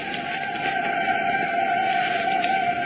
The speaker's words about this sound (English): Can you hear those whistles? Can you hear those bells? Cincinnati is celebrating. We thought we'd let you hear what the old hometown is doing. Just listen to the noise.